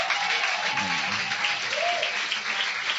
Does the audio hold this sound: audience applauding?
yes